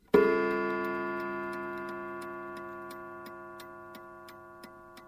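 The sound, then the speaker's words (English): A single clock chime, struck manually, rings out with a bright, metallic tone that sustains and slowly fades over several seconds, while a clock's steady ticking continues faintly underneath. “If I actually bing the chime manually, you'll hear just how long it goes for.”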